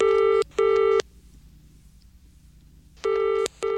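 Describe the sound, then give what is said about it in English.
A telephone rings to introduce listener phone-ins, in the classic double-burst pattern, two short electronic trills, a pause of about two seconds, then the double ring starts again. The tone is steady, bright and loud, over a faint low hum. “So let's move on to our lovely caller innerers, and they start with one of these.”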